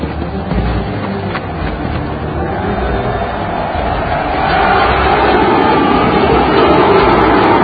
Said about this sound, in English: Okay, those are the Germans yelling.